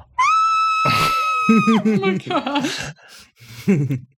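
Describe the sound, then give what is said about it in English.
A voice imitates a woman biting her own wrist and screaming into it: a high, strained cry held for over a second, then a run of shorter choked, stifled vocal bursts, fairly loud. “is biting her own wrist right now and screaming into it like this.”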